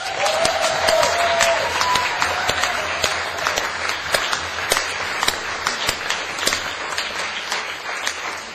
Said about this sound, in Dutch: Daarom nu, geachte aanwezigen, graag een stormachtig applaus voor alle 16 teams die vandaag aan dit toernooi hebben meegedaan.